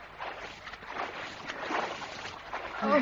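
Water sloshes and laps continuously around two swimmers at early dawn in uneven, rolling swells, a soft steady wash with a brief voiced sound near the end.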